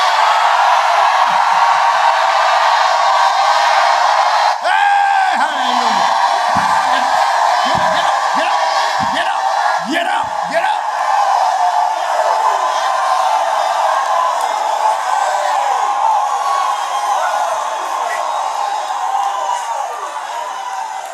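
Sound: audience shouting and cheering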